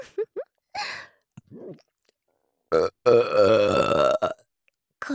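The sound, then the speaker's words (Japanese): A few small mouth clicks and short throaty sounds lead into one long, loud, deep, crude burp from a woman that rumbles for over a second, followed by a quiet breath. “下品で音の大きい生ゲップ。”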